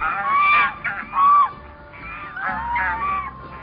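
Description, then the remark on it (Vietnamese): A flock of white swans flying overhead honking, a run of loud, nasal, trumpeting calls overlapping one another in uneven bursts, with no talking. “Một ngày nọ, thái tử đang ngồi trong giường, có một đàn thiên nga trắng xóa bay ngang trên đầu.”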